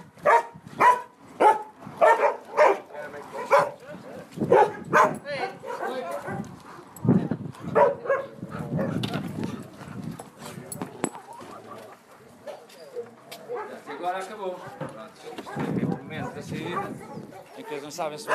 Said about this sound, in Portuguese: o Thor, um corpulento cão de água português, lá acalmou.